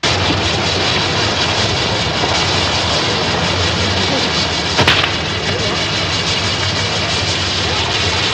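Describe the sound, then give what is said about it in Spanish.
A handmade fireworks castle is lit and goes off in a steady, dense roar of crackling and hissing rockets, with one sharper burst cutting through partway along. “Él hace unos castillos bonitos y al encenderlos truenan así.”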